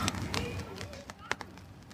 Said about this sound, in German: Die Vögel haben aufgehört zu singen, nee, doch nicht? Nein. Das ist nämlich in der Aufnahme, glaube ich, viel lauter. Die Hörer denken sich so, ah, diese Vögel die ganze Zeit. Und wir hören die gar nicht, weil die so weit weg sind